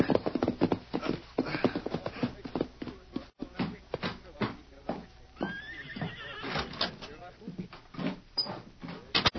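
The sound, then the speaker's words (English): Horse hooves clip-clop in a steady, uneven rhythm, with a horse whinnying and snorting partway through as the steps continue, as the rider reins the horse up to a halt in front of a bank in Blue Mesa. “reined up his horse in front of the Cattleman's Bank in Blue Mesa.”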